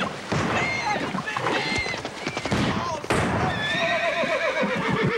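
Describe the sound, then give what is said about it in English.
A colt whinnies and neighs repeatedly amid heavy splashing and rushing water, with loud, dense churning noise throughout, as it struggles against a river current while riders drive their horses across to the far shore. “The colt struggles as the Yankees drive their horses to the rebel shore.”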